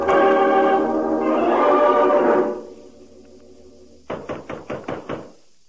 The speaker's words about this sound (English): To my knock. I pushed it open and held my gun ready.